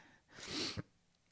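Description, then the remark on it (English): A single breathy sniffle from a crying person, a short wet intake of air through the nose that swells and cuts off sharply, with no talking around it. “Sniffling.”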